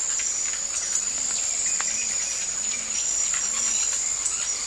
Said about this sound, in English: Wing spreads and this extraordinary, scarcely bird-like call are just the beginning of things. Just attention-grabbing ways to let any female around know that he's on his perch and about to display his prowess as an acrobat and a juggler.